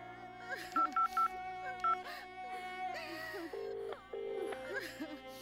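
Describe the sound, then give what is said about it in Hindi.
A quick series of short telephone keypad beeps as someone dials to call a family's in-laws during mourning before a cremation, followed by a couple of longer steady tones, while mournful voices and wailing carry on faintly in the background. “एक बार फिर से फोन करके देखो।”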